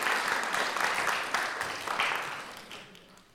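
A crowd claps together in a dense, steady burst of applause that holds for a few seconds, then gradually thins and fades out.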